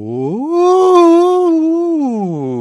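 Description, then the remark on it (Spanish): A single voice imitates a police siren as a siren exercise used in music education classes, sliding up in pitch, holding a loud wavering wail for about a second, then gliding back down, with no other sounds. “Está imitando a la sirena de la policía del...”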